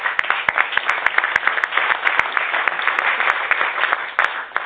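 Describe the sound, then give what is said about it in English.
Sustained applause from a crowd acknowledging some people's leadership, a dense wash of many hands clapping at once with sharp individual claps popping out, steady and fairly loud throughout. “And I think that needs to be stated, reinforced, and deserves a big round of applause.”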